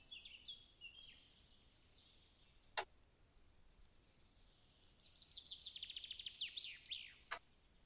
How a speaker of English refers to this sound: You hear the beckoning call of some sort of bird-like creature, similar to what Dalcom heard.